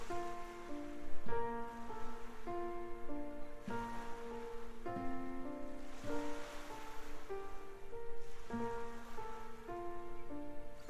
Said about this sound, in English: And you can hear the waves of the ocean gently rippling up the shoreline. And with each wave, you feel yourself relaxing even further.